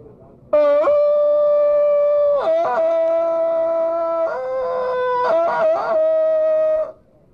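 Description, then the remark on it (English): A man's voice imitating Tarzan's jungle yell: a loud, sustained yodelling call lasting about six seconds, breaking sharply between high and low pitches several times, with a wavering stretch near the end. “See, Tarzan's yell wasn't written in the original Tarzan script.”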